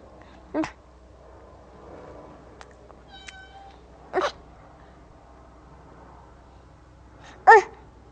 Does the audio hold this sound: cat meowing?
yes